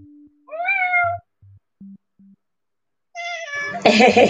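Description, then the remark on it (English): A kitten meows twice, fairly loud: a short, high mew, then after a pause a longer cry that turns harsh and strained at the end. A few faint low blips sound in between. “I have a kitten visitor today.”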